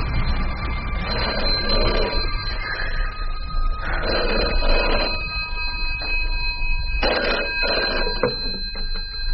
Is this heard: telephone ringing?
yes